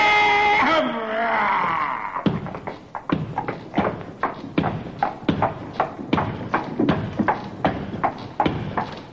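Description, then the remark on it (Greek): A horse-drawn carriage rolls along with a steady clip-clop of hooves, sharp regular knocks about twice a second, after a brief high, wavering cry opens the sound. “Θα πάμε με άμαξα.”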